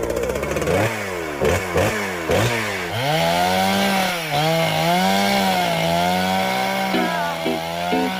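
A saw roars through wood, starting with a few sharp revving bursts before settling into a loud, sustained whine that wavers in pitch as it bites. No one speaks.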